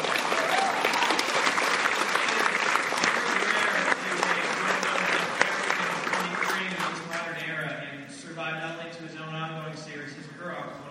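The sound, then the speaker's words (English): An audience claps steadily in dense, sustained applause, a round of applause given in tribute, that gradually thins out as a person begins talking over the last few seconds. “I do think we should all take a moment, round of applause”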